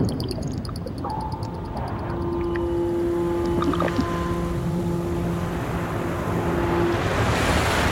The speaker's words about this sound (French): La mer qui claque, la sirène d'un cargo.